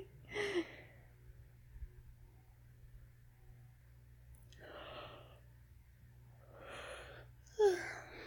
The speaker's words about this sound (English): Oh, you made me yawn too. You tired, baby?